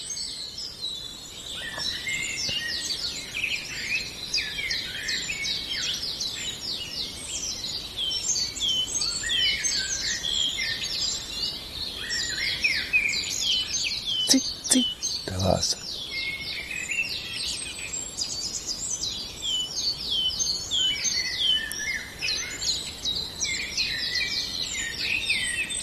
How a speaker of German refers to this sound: Noch ist er weiter weg. Aber auch er treibt sich hier rum und ist aktiv. Das ist der Zilpzalp,